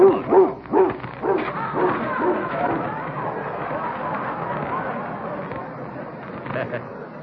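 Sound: dog barking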